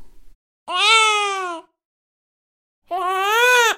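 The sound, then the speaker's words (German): Two short infant cries with a gap between them, for direct comparison: the first cry's pitch falls toward its end, and the second rises. Both are clear and fairly loud, with no talking. “Französische Babys bevorzugen eine steigende Melodiekontur. Und noch einmal im direkten Vergleich: fallende und danach steigende Melodie.”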